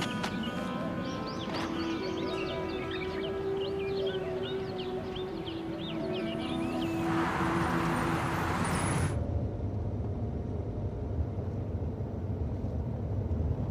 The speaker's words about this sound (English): I say, Dad, when are you changing the car? This good old car is still running strong. Yeah, but it's old-fashioned.